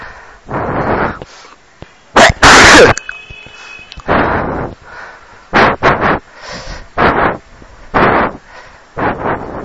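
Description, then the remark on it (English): A person with a heavy cold sneezes again and again, about eight or nine loud, explosive sneezes in quick succession, each a sharp burst with a breathy tail, with short pauses between. “I can't stop sneezing. They're coming so fast and so good.”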